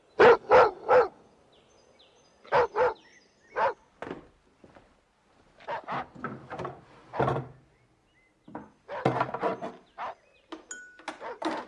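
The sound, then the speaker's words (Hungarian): A dog barks repeatedly in short bursts of two or three sharp barks with brief pauses, turning into a faster, denser run of barking toward the end. “Na menj, kutya! Egyél!”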